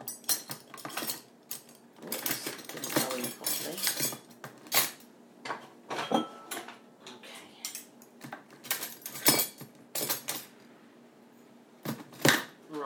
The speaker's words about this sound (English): I'm just loading up the cutlery rack at the moment.